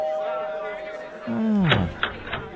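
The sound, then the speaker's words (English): A doorbell rings as a guest arrives at a party. It has a steady electronic tone that then slides downward in pitch, followed by a few sharp clicking thumps. No one speaks over it. “What is that, the door?”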